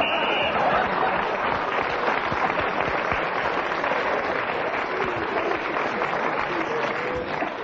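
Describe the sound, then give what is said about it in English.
A brief, high-pitched whistle sounds at the very start, marking the end of a round in a panel game, quickly swallowed by loud, steady applause and crowd noise that carries on unbroken to the end. “As the whistle went, he's still in third place.”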